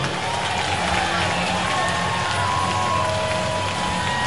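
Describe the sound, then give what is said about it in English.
A baseball crowd at Shoretown roars and cheers after Rickson Wingrove's two-run home run, his 12th of the season, a dense, steady wash of voices holding at a constant loud level for several seconds, with a few higher shouts rising above it. “Well, the crowds this week here at Shoretown haven't had a whole lot to cheer about, but that one brought everyone to their feet.”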